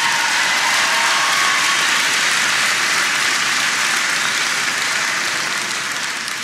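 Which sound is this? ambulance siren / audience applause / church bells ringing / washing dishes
audience applause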